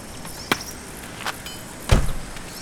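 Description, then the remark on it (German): A car pulls up at a junkyard, marked by a few sharp clicks and a heavier thump near the end, with a faint low rumble between them and no voices. “Hey, da kommt ein Auto auf den Schrottplatz.”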